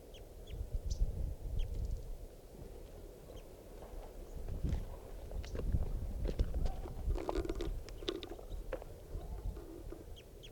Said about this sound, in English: Wild bird is giving some very soft flight calls.